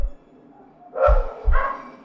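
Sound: dog barking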